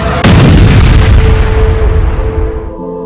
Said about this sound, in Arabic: شاحنتين بفارق بسيط اقتحمت الأولى مقر قوات المارينز بمنطقة الجناح ببيروت وانفجرت بداخله ما أدى إلى تدميره بالكامل.